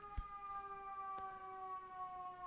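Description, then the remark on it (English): An emergency vehicle siren sounds, a steady, sustained tone that sags slightly in pitch as it passes, with a couple of faint clicks and no one talking. “Got a siren coming by.”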